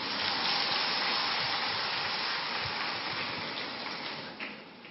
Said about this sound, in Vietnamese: Vỗ tay, chả thấy ai vỗ gì cả. Ôi trời ơi, thế là không muốn tác hợp cho người ta. Thế thì keo kiệt thế, bùn xỉn thế. Học Phật mà bùn xỉn thế, cho một chàng vỗ tay thật to nữa lên.